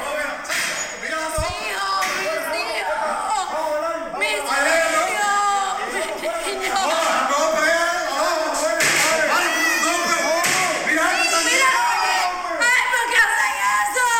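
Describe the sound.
A woman screams while children cry, loud and continuous, their anguished voices overlapping with other shouting people for the whole stretch, with a sharp knock early on, as uniformed officers pound on the front door trying to break into a family home at Campiña 772, between Velázquez and Palma, in Cárdenas.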